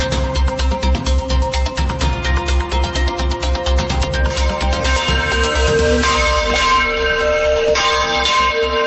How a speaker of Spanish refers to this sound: Son las campanas de Santa María en el ensayo general previo a la bienvenida 2020 de esta noche.